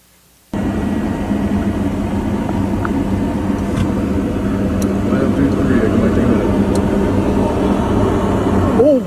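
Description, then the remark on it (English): Airplane crash landing: a Delta flight crashing on the runway in Toronto, with snow on the ground. A loud, continuous engine roar kicks in abruptly and rumbles steadily for about eight seconds, heavy, with no other sounds standing out. “I don't even think anybody got injured on this Delta flight that crashed on the runway.”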